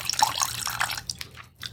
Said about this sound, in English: Let's pour a little bit more wine.